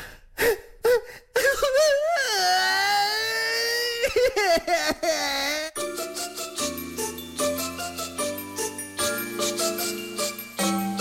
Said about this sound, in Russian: ты что плачешь? Да потому что мне очень обидно.